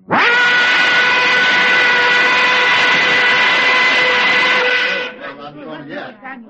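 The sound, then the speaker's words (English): A flag factory's whistle blows one loud, steady blast for about five seconds, a rich harmonic tone that holds level before cutting off, followed by a moment of voices. “The whistle blew.”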